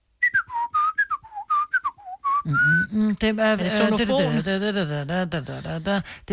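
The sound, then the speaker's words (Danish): Someone whistles the Nokia ringtone melody as a quiz question, a quick run of about a dozen short bright notes, and then several voices break in loudly, talking and laughing over the end. “Ej, er det ikke Nokia? Er det rigtigt svar”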